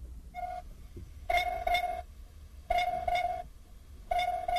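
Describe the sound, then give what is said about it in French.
A sound buoy's electronic signal on the water, marking the sailing course as part of a sound system that lets blind and visually impaired sailors navigate: loud, harmonic beeping tones in short bursts, each a quick double pulse, repeating steadily over a low rumble of wind and water. “La bouée sonore, elle, permet de dire où est le parcours.”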